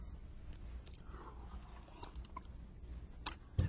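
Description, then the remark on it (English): A quiet sip from a drink: soft slurping and swallowing mouth noises with a few faint clicks, then a sharper knock near the end, like a cup being set down. No one speaks. “let me take a sip here.”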